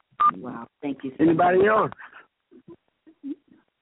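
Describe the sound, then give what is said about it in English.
Telephone keypad tones pressed while unmuting a phone call: a few short, separate beeps pressed one after another, following a burst of muffled, phone-line voice. The tones are brief and fairly quiet, with pauses between presses. “Don't wait till I say the line is open and you try to start unmuting your phone.”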